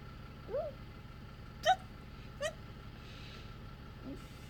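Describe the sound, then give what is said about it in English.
A person trying to fight off the hiccups hiccups three times in quick, uneven succession, each a short, squeaky, high-pitched catch in the throat, with a faint fourth hint near the end against a quiet background. “This is someone fighting off the hiccups.”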